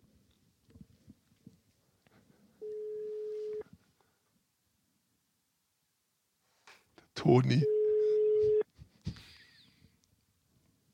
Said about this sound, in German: Es klingelt.